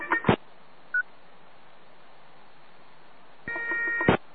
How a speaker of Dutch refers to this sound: Nou, dat lawaai dat komt van mijn e-mail ontvangst.